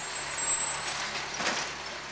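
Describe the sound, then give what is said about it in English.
A garbage truck idles, its engine rumbling low while sharp hissing bursts of air brakes release in a couple of loud puffs. No one speaks. “Here comes the alphabet garbage truck.”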